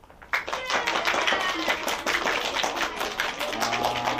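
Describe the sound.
An audience breaks into applause as those who prefer cats are asked to clap, many hands clapping in a dense, steady patter that starts abruptly and continues throughout, loud, with faint voices mixed in underneath.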